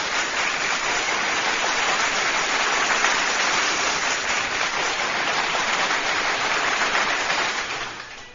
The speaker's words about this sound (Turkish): kocaman bir alkış.